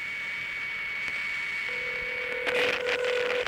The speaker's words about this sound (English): That's your phone ringing. You better run. One more ring. It's all we can allow you.